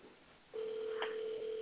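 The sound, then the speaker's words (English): A steady, mid-pitched telephone line tone as a merge call is made, starting after a brief quiet moment and holding evenly, with a short faint blip partway through. “So I'm going to do a merge call.”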